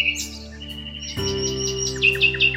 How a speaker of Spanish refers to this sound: Era el ruiseñor. Entonces, los otros pájaros hicieron lo mismo y el aire se llenó de voces.